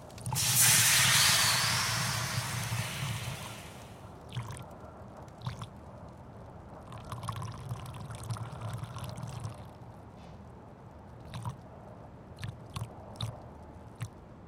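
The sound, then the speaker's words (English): A stream of liquid hits a fire with a loud, rushing hiss for about four seconds, then the embers sizzle quietly with scattered sharp crackles and pops. No one speaks. “You need to get that stream checked.”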